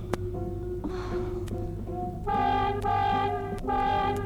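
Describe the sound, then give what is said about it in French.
A car horn, pressed by someone's backside inside a convertible car, blares in three loud, steady honks, the first two close together and the third after a brief gap, over a low continuous engine hum. “Attends, c'est mon cul qui appuie sur le klaxon.”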